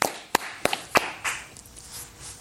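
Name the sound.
person clapping hands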